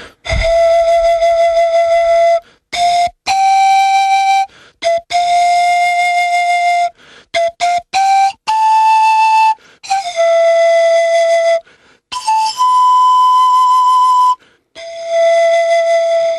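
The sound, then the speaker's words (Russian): A pan flute plays a slow solo melody of breathy, sustained notes separated by brief pauses, mostly holding one mid-high pitch with occasional steps up, loud and clear with no voices. “А, это флейта пана.”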